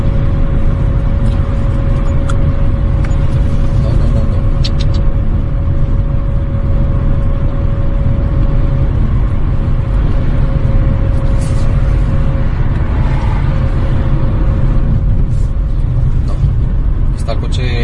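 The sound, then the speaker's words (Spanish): A car engine drones steadily from inside the cabin, a constant low rumble with a thin, sustained whine that never rises or revs up, while people talk quietly over it. The car is in emergency limp mode and will not accelerate; the car indicates to shift to fourth gear. “Te dice que cambies a cuarta. En 3.000 no, vueltas... No. Está el coche en emergencia.”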